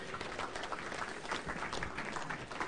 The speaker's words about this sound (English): Give them all a clap.